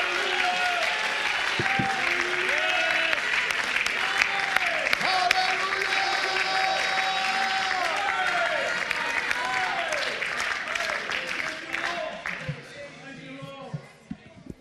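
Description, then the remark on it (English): A church audience claps hands steadily and loudly for about twelve seconds in worship because he lives, while voices sing and call out over the clapping, which thins out and fades toward the end. “Oh, would you clap your hands and lift your voice?”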